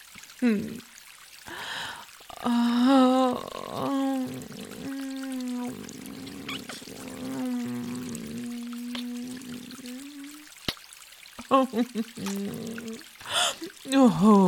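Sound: water pouring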